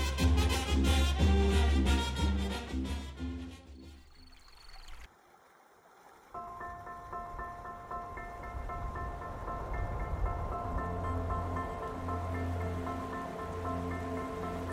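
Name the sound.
flowing river water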